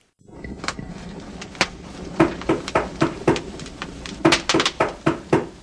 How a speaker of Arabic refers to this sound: لكن فجأة سمع ديكو أحدا يطرق الباب. كان يطرق الباب بقوة.